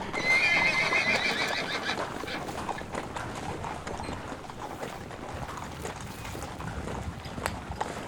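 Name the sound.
horses galloping and neighing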